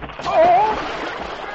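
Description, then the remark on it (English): Ice suddenly gives way with a cracking sound and a man plunges with a heavy splash into icy water, followed by steady churning and sloshing as he struggles to keep afloat. Fairly loud, with no voices over it. “Suddenly, the ice gave way.”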